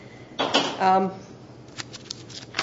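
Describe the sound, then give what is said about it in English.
Crisp rustling of paper sheets being shuffled, in two bursts: a brief flurry, a pause, then a choppier run of flicks and crinkles near the end. “Too many pieces of paper here. Oops, wrong page.”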